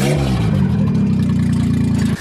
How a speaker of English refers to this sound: Hey, we have a running engine here. All right. You found a running engine? What size? A 3-cylinder.